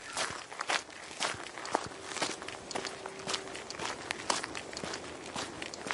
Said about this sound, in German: Aber Fakt ist, die Mikrofone sind da, die Tests laufen, dürft ihr euch gerne anhören und ja, das Ergebnis mit den Windgeräuschen hört ihr jetzt.